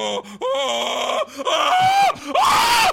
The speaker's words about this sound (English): Didn't even hear I screamed so loud I didn't even hear your answer